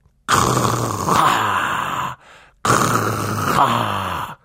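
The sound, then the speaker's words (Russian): A voice imitates loud snoring: two long, rasping, throaty snores, each nearly two seconds, separated by a short pause, forceful with no other sounds. “Ты сам начнешь храпеть, да как можно громче, вот так.”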